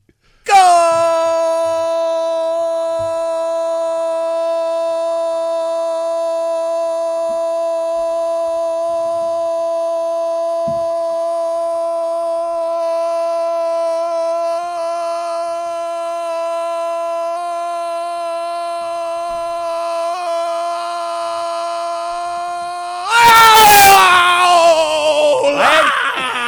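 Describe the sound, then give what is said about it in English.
A voice bellows one unbroken goal call, timed at about 25 seconds, holding a single steady, loud note before it cracks and breaks off into a burst of ragged, breathy noise. “you said goal for 20 straight seconds? Yeah, 20 straight seconds.”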